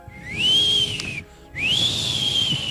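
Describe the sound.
A person whistles two long, rising-then-steady tones separated by a short pause, mimicking an eerie creature's call. The whistle is clear over a faint low hum.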